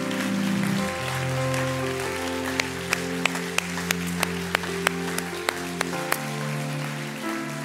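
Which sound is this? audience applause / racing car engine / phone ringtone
audience applause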